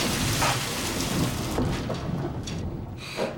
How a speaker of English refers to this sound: … is panicking as the storm rages. Oh, God, it's coming!